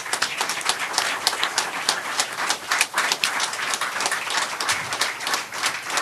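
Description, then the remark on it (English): An audience at the People's Forum applauds the people of the People's Forum, many hands clapping in a dense, continuous patter that stays fairly loud and even throughout, with no voices standing out. “Would you please give a round of applause for the people of the People's Forum?”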